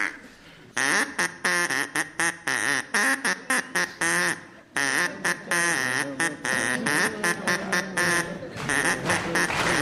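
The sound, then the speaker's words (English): A rapid run of loud, nasal duck quacks rises and falls in pitch, beating out the melody of Old MacDonald Had a Farm, with only a brief pause midway, as an audience claps along. “Old MacDonald had a duck, wasn't it? It was Old MacDonald had a farm, of course it was.”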